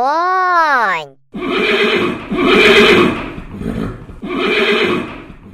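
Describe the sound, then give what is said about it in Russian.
A horse whinnies once, a loud shaky neigh that rises and falls for about a second, then a person starts narrating, in Russian, how the horse went up to Koshchei. “конь подошел к Кощею, наклонился и поцеловал”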